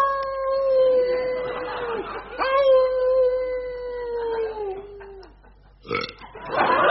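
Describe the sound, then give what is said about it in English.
A loud, drawn-out burp that rises into a howl-like wail, holding a steady moaning pitch over two long stretches before trailing off, followed by a couple of short rough bursts. “That's not the hound of the Baskervilles. That's the brown Windsor soup.”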